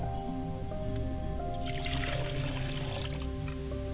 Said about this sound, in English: As I pour libation to the west, I say, Ashe.